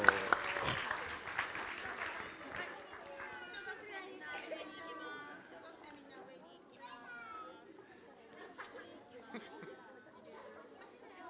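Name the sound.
audience clapping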